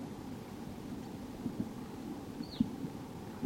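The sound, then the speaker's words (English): A wild evening grosbeak gives one short, downslurred call, high and clear above a steady low rumble with a few soft thumps; no one speaks. “It's a wild bird.”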